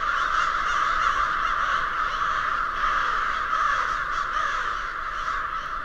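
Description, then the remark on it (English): A dense, continuous chorus of many American crows cawing at once, a loud overlapping wall of harsh calls from an enormous roost in the twin cities of Lewiston and Auburn, with no pauses and no voices. “Follow them for a few minutes, and their winged procession will lead you straight to the Corvid Mother Lode, an enormous roost of active, noisy crows.”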